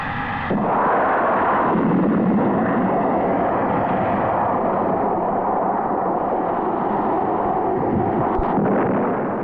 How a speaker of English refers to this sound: Drones are now being tested as launch platforms for weapons. Here, a drone launched from a transport aircraft is about to fire a Maverick TV-guided missile.